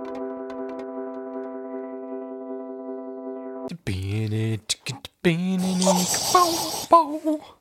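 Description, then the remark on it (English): A voice imitates the Batmobile, starting with a long, steady buzzing hum, then breaking into choppy vocal bursts, swooping pitched tones and a breathy, hissing rush. “I was trying to do a Batmobile sound, and it came out with just...”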